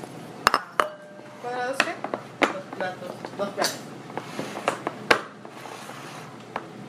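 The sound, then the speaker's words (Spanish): Ceramic plates of several sizes clink and knock against each other in a quick irregular series of sharp contacts as they're moved, with a person talking faintly underneath. “Dos platos. Como ves, ahí todavía otro más chico y luego otro más chiquito.”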